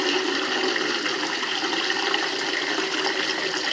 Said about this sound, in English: I needed a water bowl in my bedroom for them. And just rinsing it out. And I just got the big cheap plastic one.